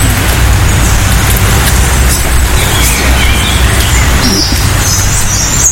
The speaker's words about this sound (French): Là, on a les deux. On a le rouge-gorge au-dessus de nous et le merle un petit peu plus loin. C'est deux oiseaux qui sont bien présents en Normandie.